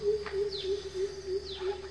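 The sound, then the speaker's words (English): A bird chirps twice, each call a quick high downward sweep, about a second apart, over a steady low droning hum with no talking. “Is it the sound of bird?”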